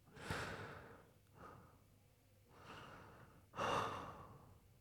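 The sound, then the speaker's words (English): A man pants and breathes heavily and deeply right behind the listener as he catches his breath: four loud, drawn-out breaths in an uneven rhythm, with quieter airy pauses between them and no talking. “The sound of his panting, his deep breathing right behind you.”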